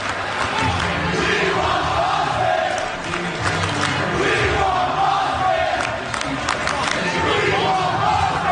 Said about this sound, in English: And from the sound of the crowd, the Bucks fans are ready for Boston as well.